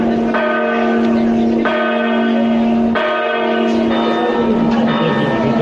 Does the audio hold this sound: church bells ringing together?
yes